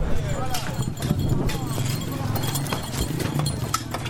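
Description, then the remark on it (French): Busy street noise at the entrances of the town of Djenné during its market fair, with horse hooves clip-clopping in an uneven rhythm, carts drawn by horses and some by oxen rumbling steadily underneath, and indistinct voices mixed into the crowded scene. “Tirés par des chevaux, mais aussi par des bœufs pour certains, les charrettes se bousculent à toutes les entrées de la ville.”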